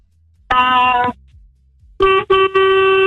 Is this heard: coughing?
no